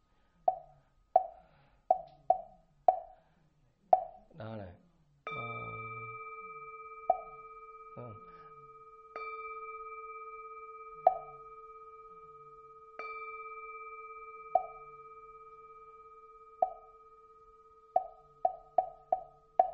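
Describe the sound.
A temple bell is struck a few times, each deep tone ringing and slowly fading, between runs of quick, hollow wooden knocks that speed up at the start and end; a voice speaks briefly.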